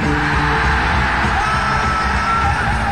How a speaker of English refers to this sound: So 1, 2, 3, I'm thinking of a fucking big scream, all right, this time? Right. Here we go. 1, 2, 3!